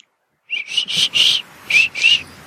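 A person whistles a quick run of about five high, clear notes with short gaps between them, moderately soft, with no talking.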